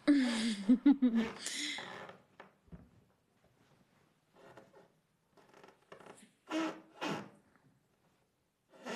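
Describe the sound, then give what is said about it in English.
A wooden bench creaks in a series of irregular, scratchy bursts, faint at first and then louder, following a brief voiced groan at the start. “Oh, this bench is so creaky.”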